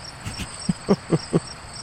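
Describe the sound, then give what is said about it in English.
Crickets chirp steadily in a quiet, high-pitched background, with a few soft knocking taps rising briefly beneath the chirping; no one speaks. “Have you got any crickets?”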